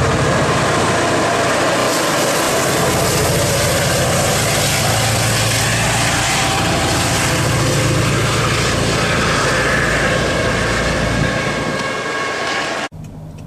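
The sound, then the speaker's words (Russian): A locomotive engine at a railway station in Mountain View rumbles loudly and steadily, a dense, continuous mechanical roar with a deep low hum, holding constant throughout before cutting off abruptly at the end. “Локомотив хочу показать.”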